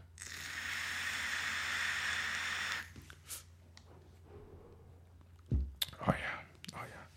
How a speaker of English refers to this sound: Maybe I should do a what you vaping. Probably not. I don't care. But let me take a vape.